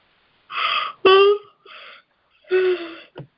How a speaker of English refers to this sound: A good sign that you're yawning. It is. That's not me. That's a very good sign. It's me yawning. It feels really good.